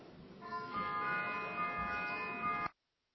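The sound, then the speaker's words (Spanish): A sustained electric bell rings continuously for a couple of seconds in a parliament, calling a vote, steady and fairly loud with a bright metallic buzz, over faint room murmur, then cuts off abruptly. “Una vez que tocara la campana iba a pedir qué votaciones querían separadas o no”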